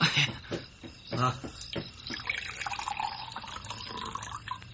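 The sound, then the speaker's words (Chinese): Water is poured into a cup at a small inn, a steady trickle whose pitch rises as the vessel fills, following a few clinks and knocks at the start. “好，我来倒水啊。”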